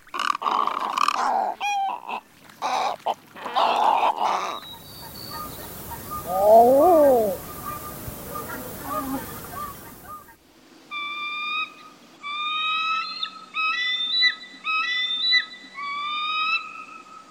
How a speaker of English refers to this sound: a great egret, common eider, and bald eagle, and see if you can guess what the names of these three water-related birds have in common.